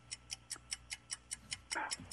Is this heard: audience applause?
no